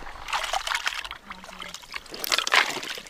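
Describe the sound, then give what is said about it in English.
Thick, wet stew, a high-calorie mix of beef, kibble and water, is scooped with a huge ladle and poured into sled dogs' bowls by musher Brent Sass during a layover in a small Klondike town in a 1,000-mile race, with sloshing and splattering, a brief pause, then a second louder glug and splash. “Brent Sass was using a huge ladle to scoop stew into dog bowls.”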